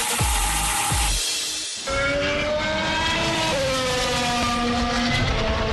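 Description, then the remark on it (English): A high-pitched Formula One race car engine screams and revs, its whine climbing through a quick gear change before holding a loud, steady howl. No voices are heard. “Delayed Formula One racing season revs back up with back-to-back races in Austria from July 5th.”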